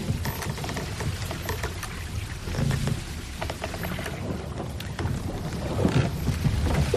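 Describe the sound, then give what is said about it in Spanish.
Waves of a calm sea at night slosh and splash steadily against a boat's bow, a continuous wash with irregular slaps and a slightly louder surge near the end, no voices. “El barco no se mueve mucho y la poca luz de la ciudad abre la puerta al silencio, tan solo roto por el relajante sonido de las olas chocando en proa.”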